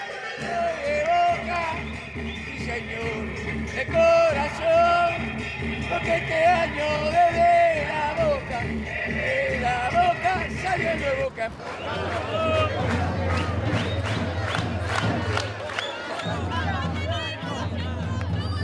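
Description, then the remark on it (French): Boca Juniors football supporters massed outside the stadium while its doors are still closed, competing to make the most noise: a dense roar of shouting and chanting voices, shifting midway into rhythmic clapping or pounding over a deep, steady low rumble. “Les supporters sont tendus. C'est à celui qui fera le plus de bruit.”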